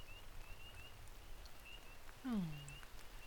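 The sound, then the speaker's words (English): Steady rain falling, a soft continuous hiss with low patter throughout, briefly joined near the end by a short, falling tonal whine. “But why are you just standing in the rain?”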